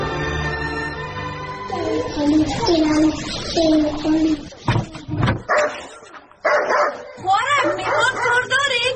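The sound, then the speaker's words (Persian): A dog barks and yelps repeatedly, loud and insistent, in short bursts with brief pauses, while people talk over and around the barking. “بیا وی الوم سگی تو بسته کو که نخوری، مامان من چور میترسم.”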